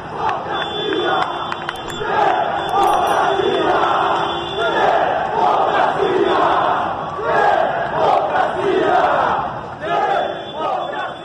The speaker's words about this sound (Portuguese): Você tá aí ouvindo um grupo de manifestantes que foi à Avenida Paulista no domingo gritando palavras de ordem em prol da democracia.